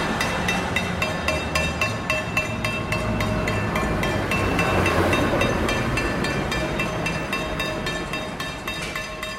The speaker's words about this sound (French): Bon, il y a le camion des poubelles, il y a le camion qui ramasse les